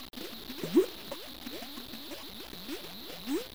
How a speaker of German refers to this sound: Auf der Platte sind Grußbotschaften in 55 Sprachen, Bilder, Musik und auch verschiedene Geräusche, zum Beispiel Sphärenmusik. Oder das Geräusch von Schlammblasen.